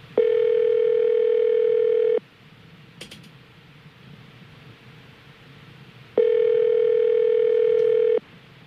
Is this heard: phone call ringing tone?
yes